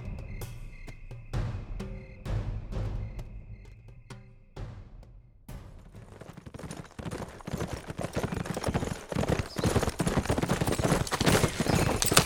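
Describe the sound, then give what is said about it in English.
Horses walking with a steady clip-clop of hooves, distinct and spaced at first, then thickening into a busier, louder clatter of many hoofbeats. No one speaks. “you hang on to the horses.”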